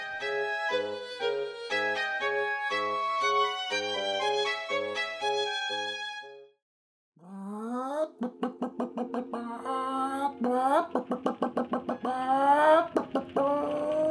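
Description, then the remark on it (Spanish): A hen clucks in a rapid series of short, clipped notes that climb toward a louder squawk, following a brief bright musical passage and a moment of silence. “Señora, señora, aquí hay una gallina bien bonita, como la de mi mamá.”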